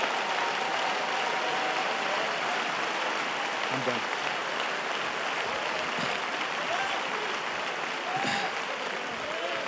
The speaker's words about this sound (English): Oh, if you want that, clap your hands to Jesus.